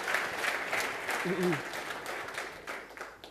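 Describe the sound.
An audience claps steadily for a few seconds to welcome a speaker at the start of a talk, a dense, continuous patter of many hands that gradually thins toward the end, with a brief murmured voice partway through.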